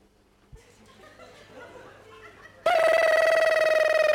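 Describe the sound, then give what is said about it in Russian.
A telephone suddenly starts ringing loudly and continuously after a few seconds of quiet murmuring and faint laughter, its bright electronic tone dominant. “Почему никто не звонит, я не понимаю. Все, я жду звонков.”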